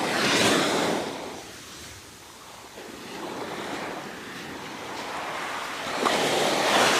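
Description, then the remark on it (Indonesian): Powerful ocean waves crash and surge on the coast of Karanghau, below a steep hill: a broad roaring wash that swells loudly, eases into a softer rushing hiss, then builds to another loud crash. No voices. “Dengan deburan ombak dahsyat dan pemandangan alam yang indah, karena amat kelelahan, Putri Kadita tertidur pulas.”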